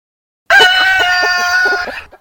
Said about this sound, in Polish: Przepraszam, no ta kura chodzi bez głowy. Niesamowite. Chodząca, nie no, żywy trup kury. Żywa, martwa kura.